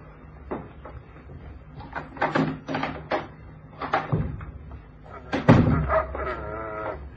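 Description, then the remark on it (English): A cupboard door opens and shuts with a run of wooden knocks and rattles, then a louder thump followed by a drawn-out creaking hinge. “In that cupboard.”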